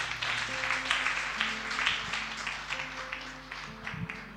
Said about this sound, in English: Give the Lord a mighty hand of praise. You can go back and sit down and listen to the word. Amen. Amen. Clap to Jesus again.